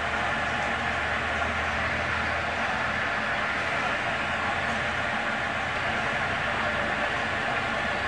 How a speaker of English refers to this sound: The other GO train on the other side of that platform with the Metro sign on it, it's now going the same direction we're going.